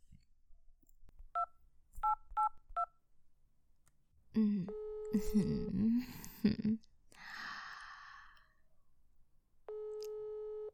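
A phone number is keyed in to call a boss, as four quick, evenly spaced dual-tone beeps, followed by breathy sighs and shuffling, then a steady electronic phone tone at the end.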